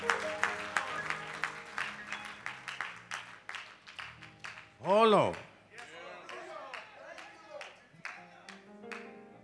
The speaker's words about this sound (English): Why don't we just give God a hand clap of praise?